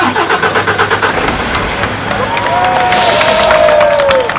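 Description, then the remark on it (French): A crowd of workers, gathered to block trucks from passing, claps in quick rhythmic bursts and cheers as a heavy truck turns back. Its engine revs, the drone rising and shifting as the vehicle pulls away. “Ah, le camion a fini par rebrousser chemin. Vous l'entendez sous les applaudissements des ouvriers.”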